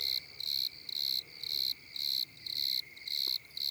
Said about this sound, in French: Ce soir, le grillon bordelais.